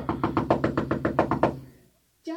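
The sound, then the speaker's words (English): A rapid series of about ten loud, resonant knocks on a wooden door, evenly spaced, then a short pause before a voice begins to speak. “I'm sorry it took me so long to answer the door, but I didn't realize it was you.”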